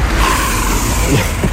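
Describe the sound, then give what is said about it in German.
A bicycle makes an emergency stop, its tyres skidding with a rough, sustained scraping hiss and a thin squeal, loud over outdoor street noise. “Das war mal eine Vollbremsung.”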